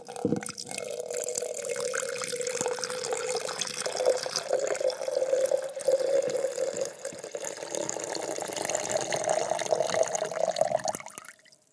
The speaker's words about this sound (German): Und vielleicht hört ihr das ein wenig. Ich lasse jetzt 327 Milliliter Wasser von einem Becher in den anderen.